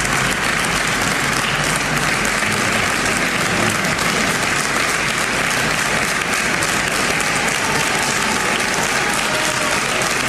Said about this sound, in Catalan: L'exconsellera Torroellanca ha arribat al Parlament de Catalunya fa molts pocs minuts i així és com l'ha rebut la cambra catalana des del vestíbul. Notícia, imatge des del vestíbul. Així és com la rebien, amb aquests aplaudiments.